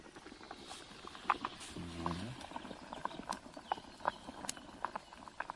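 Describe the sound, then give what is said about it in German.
Pasta boiling hard in a pot of water over a wood fire, a constant bubbling hiss scattered with irregular sharp pops and ticks, with a brief low hum partway through and no talking. “Es kocht jetzt gerade richtig schön.”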